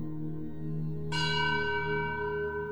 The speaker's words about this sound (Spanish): Campanas, nuevas señales.